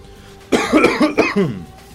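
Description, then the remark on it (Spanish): A short burst of several fairly loud coughs in quick succession, heard alone with no talking, over a faint background hum. “Qué bien no funciona el botón de tos.”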